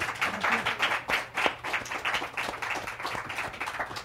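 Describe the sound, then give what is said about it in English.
An audience gives a round of applause to thank guests who joined them that morning, many hands clapping in a dense, rapid patter at an even moderate loudness that holds for the full few seconds without anyone speaking. “And can we have a nice round of applause for them?”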